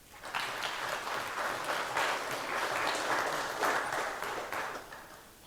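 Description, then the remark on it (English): An audience at FrostCon applauds the event's coffee maker steadily, a dense wash of many hands clapping at once that holds for several seconds before starting to taper off, with no talking over it. “So I think this earns, again, an applause.”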